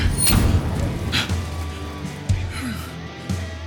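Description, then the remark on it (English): Heavy thuds slam against a door about once a second, four blows in all, with a low rumbling, scraping thrash between the impacts, as a creature throws itself against the door trying to get in, making it creak. “It thrashed and pounded, throwing itself against the impenetrable door with all its might.”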